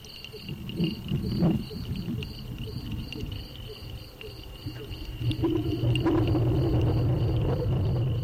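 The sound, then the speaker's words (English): Steady, high-pitched cricket chirping pulses continuously in near 80-degree weather while low rumbling traffic swells and fades beneath it, with a louder vehicle passing toward the end. “Sounds like we have crickets and Hondas.”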